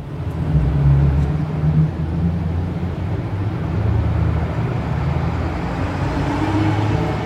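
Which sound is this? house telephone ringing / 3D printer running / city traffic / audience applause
city traffic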